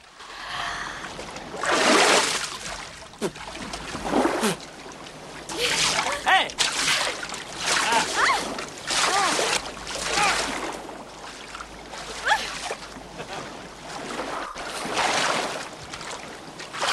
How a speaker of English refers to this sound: She surfaces with a look of bliss. Costas surfaces and they splash each other.